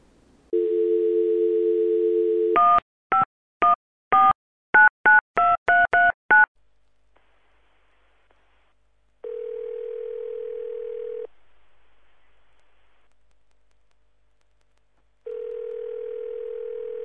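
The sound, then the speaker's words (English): A phone call being placed to a member of Online Profits University: a steady dial tone, then a quick run of about nine touch-tone beeps as a number is dialed, followed by two long ringback tones separated by silence. Clear, with no talking. “So we're going to go to the phone lines now, and we're going to call in, and then you can hear from them firsthand at what they're doing.”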